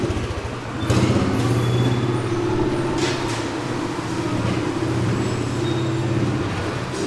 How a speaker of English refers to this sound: There's a real traffic jam. Bicycles, people, carts, trucks, fish. We can hardly get into the wholesale portion of the market.